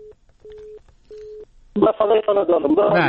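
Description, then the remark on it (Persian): A telephone line tone after a dropped call with a district governor sounds in three evenly spaced, steady beeps, clear, before someone starts talking loudly over the line. “بله کل تلفن قطعش”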